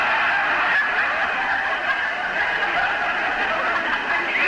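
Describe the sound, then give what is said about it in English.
A turkey gobbles continuously in a rapid, warbling stream of throaty calls, loud, with no speech over it. “would you like to buy a turkey? Cheap.”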